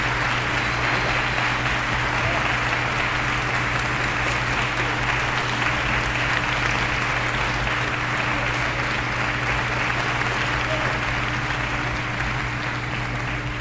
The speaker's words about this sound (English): There's the audience applause.